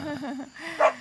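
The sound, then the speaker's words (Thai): A dog named Ai Dam gives a single sharp bark near the end, preceded by a stretch of wavering, whiny vocal tones. “ไอ้ดำมึงเห่ากูกะมึงเห่ากูก็บอกว่านะมาเห่าหัวกูเนอะ”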